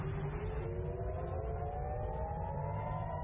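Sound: air raid sirens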